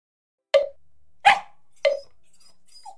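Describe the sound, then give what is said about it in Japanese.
A dog barks three times, sharp, with short even gaps between barks, then gives a faint little whimper at the end. No voices. “てか犬、おいこの犬一体どっから来たんだ。”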